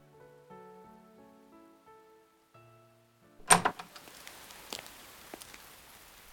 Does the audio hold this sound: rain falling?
yes